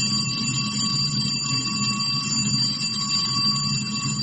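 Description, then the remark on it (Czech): A school bell rings continuously with a steady, loud metallic tone that never pauses, over a low background rumble, and no one speaks. “Dvocifren je broj škola u Bosni i Hercegovini u kojima se više ne čuje školska zvona, jer su zatvorene zbog manjka đaka.”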